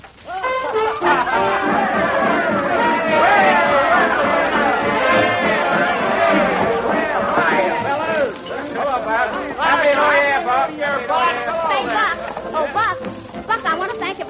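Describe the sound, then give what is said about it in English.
A party crowd in a parlor: overlapping voices chatter and laugh, a dense, continuous hubbub with no single speaker standing out, briefly dipping before swelling again. “Well, come in the parlor, Buck, where the crowd is.”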